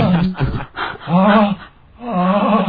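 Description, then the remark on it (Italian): Heavy, voiced panting: a handful of deep, groaning breaths, each lasting about half a second, loud and rough, with brief gaps of quieter breathing between them. “L'ansimata.”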